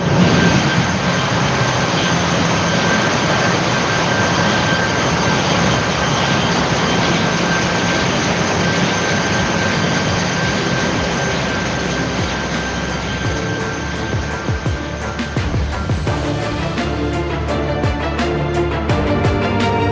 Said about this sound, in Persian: من الان از محیط اتاق کنترل کشتی خارج میشم و وارد محیط موتورخونه میشم و صدا رو برای شما ضبط خواهم کرد.